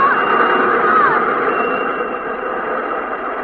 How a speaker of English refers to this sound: Get against this wall, quickly! It's a subway train!